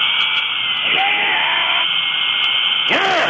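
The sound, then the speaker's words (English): A dental drill whines steadily at a high pitch for several seconds, loud and continuous, as a man in a dental chair drills his own teeth to give himself a root canal, while a couple of brief strained vocal cries rise over it. “He is drilling his own teeth.”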